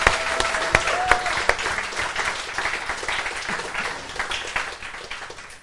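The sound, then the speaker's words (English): Sustained audience applause for the Lord, a dense wash of many hands clapping steadily for several seconds, with a few sharper claps standing out and the noise slowly easing off toward the end. “And if anyone believes that, come on, let's give the Lord a huge round of applause.”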